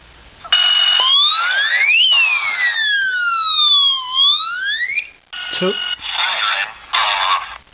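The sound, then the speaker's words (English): A loud electronic home security alarm siren wails with sweeping rising and falling tones for about four seconds, then cuts off, followed by a few short, choppy bursts of sound. “3 turns off the alarm.”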